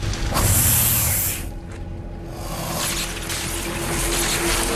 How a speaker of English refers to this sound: A horn-nosed viper beats off a challenger and bites into a circuit board with dozens of electrical wires, causing it to spark and short-circuit.